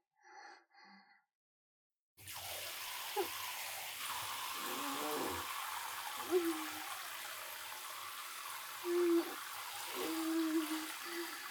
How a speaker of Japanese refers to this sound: ねえ、お尻の穴、シャワーかけて。